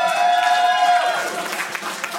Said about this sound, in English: Keep clapping, everybody.